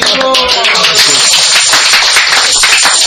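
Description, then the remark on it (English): An audience claps steadily in thanks for an invitation for about three seconds, a dense, bright patter of many hands at an even loudness, with a brief voice audible at the start. “And you all clap.”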